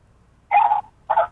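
Two short dog-like barks with a whiny edge, a brief pause between them, most likely a person's voice imitating a dog; no other talking.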